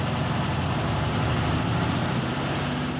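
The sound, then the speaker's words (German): The engine of the world's first omnibus, an old vintage bus whose motor sounds like a Beetle engine, idles steadily, a loud, continuous low chugging rumble with a quick regular pulse and no voices. “So klingt er also, der erste Omnibus der Welt.”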